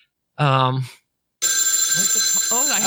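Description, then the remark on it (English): A telephone rings for an incoming call with a steady, bright, continuous trill lasting over a second, loud and dominant, preceded by a short burst of voice and a moment of silence. “I think we're getting another call.”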